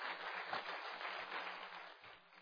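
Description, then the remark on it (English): An audience claps together in praise of the Lord after a song service, a dense, steady burst of applause, many hands blending into a continuous crackling wash with no voices on top. “I want you to give the Lord a clap offer to praise His name.”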